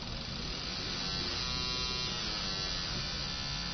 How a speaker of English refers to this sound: So what I've got now is a bunch of impulses. So if I turn the frequency right down, this is not a tone anymore. It's actually a series of pulses, okay? And if they come at you fast enough, you will hear a tone.